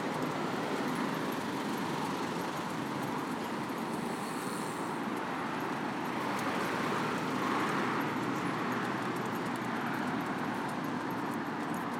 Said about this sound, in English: Big stream of traffic going past me in the opposite direction to me, going west. It's not west at this point, it's south at this point, but anyway. West eventually, if they keep going.